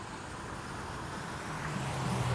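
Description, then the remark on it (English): Steady roar of street traffic at the intersection of Dufferin and Bloor, vehicles rumbling past with a low engine hum that swells slightly louder toward the end, no voices. “I could theoretically cross because I can hear the traffic, but I have to double cross this intersection, so”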